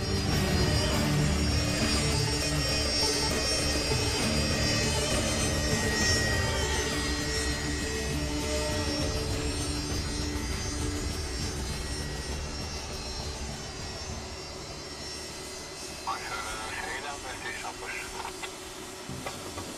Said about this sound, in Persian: صدای دو فروند هواپیمای F4 که از تو فرودگاه پرواز کردن از خواب بیدار شدم.